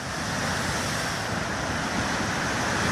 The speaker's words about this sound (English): it wasn't long before people started sharing videos of huge waves crashing into the shore of Tonga Tapu, the largest island, under a darkening sky.